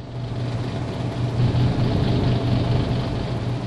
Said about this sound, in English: It's the growling buzz of my quiet, cool window air conditioner. The plastic louvers act as a resonator, like the soundboard of a piano, so when the compressor revs up, the quiet cool roars like a Harley.